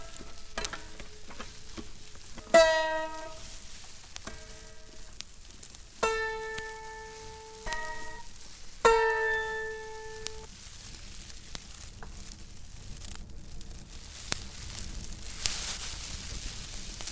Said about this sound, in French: Le feu crépite de plus en plus fort.